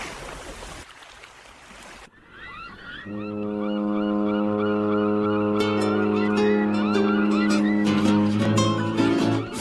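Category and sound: vehicle, ship horn blast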